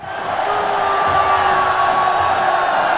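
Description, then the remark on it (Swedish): A large audience screams and yells together at a human sacrifice, in a dense, continuous roar that holds steady and loud for the whole few seconds, with no single voice standing out. “innan man inför en skrikande publik skar det ännu bultande hjärtat ur deras kroppar.”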